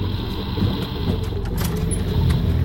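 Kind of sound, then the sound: vehicle, helicopter flying overhead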